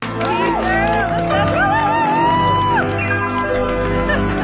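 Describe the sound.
A large crowd of students and teachers, formed in two long lines on Northview High School's first floor leading to the front doors, cheers and applauds loudly and continuously to greet a teacher, with many overlapping voices whooping and shouting throughout.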